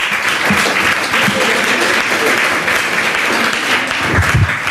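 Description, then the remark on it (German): A crowd in a rooftop lounge applauds steadily, a dense, even wash of clapping that holds at a fairly loud level throughout with no pauses, a few brief low thumps standing out near the end. “Auch das Ihr Applaus.”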